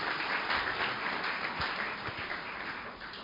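Sustained applause from a crowd, a dense crackling wash of many hands clapping steadily for the whole stretch, fairly loud with no voices over it.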